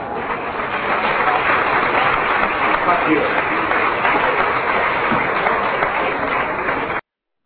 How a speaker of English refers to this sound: So if you didn't hear it there at the end when the applause is coming up, and I thought he made a tremendous speech there, and that was just a small clip of it.